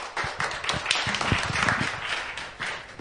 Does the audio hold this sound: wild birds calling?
no